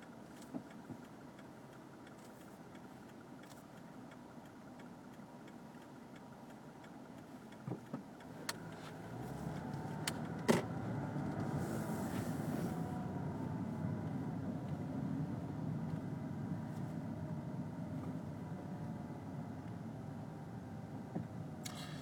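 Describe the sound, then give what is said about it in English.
A car engine idles steadily with a low, continuous rumble that swells slightly partway through, with a few sharp clicks scattered over it, as the driver stops the car after crossing Van Ness and turning right onto Franklin. No one speaks. “I don't know if I can be heard or not anymore on account of I'm driving a car.”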